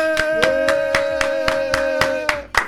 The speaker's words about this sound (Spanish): Aplaude ti tamén, porque queda triste. Queda vacío, dous queda vacío. Escoítalo, e queda tirando moi tristón. É que é triste que nos aplaudamos a nos mesmos, é triste.